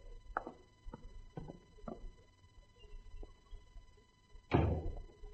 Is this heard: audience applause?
no